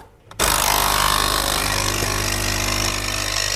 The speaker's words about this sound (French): Mais dans la réalité, quand vous vous faites couler un café bien serré, vous entendez ceci.